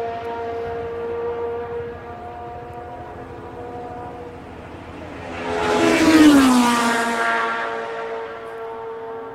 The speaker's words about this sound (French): Deux voitures simultanées.